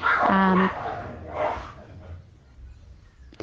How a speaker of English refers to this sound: sorry, there's a little dog fight here.